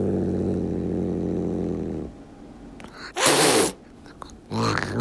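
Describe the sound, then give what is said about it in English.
A tuxedo domestic cat, reacting to two new kittens brought into its home in Rhode Island, gives a low, rumbling growl for a couple of seconds, then lets out two sharp, breathy hissing bursts, fairly loud, with no talking. “when the owner of the tuxedo cat, Frankie, brought two new pandemic kittens to their home in Rhode Island, Frankie's response was unambiguous”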